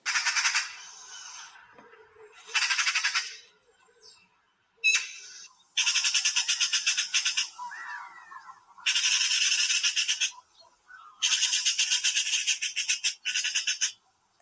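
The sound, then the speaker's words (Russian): A magpie chatters and cries in harsh, rattling bursts, about six loud rasping bouts separated by brief pauses, with no talking. “Одна стрекотня да крик выходит.”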